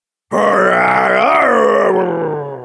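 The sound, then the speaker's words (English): A loud, drawn-out angry growl, voiced by a person as the character Kit, rumbling low and steady for over two seconds, swelling briefly in the middle before easing off. No words are spoken. “Kit growled. He sounds angry.”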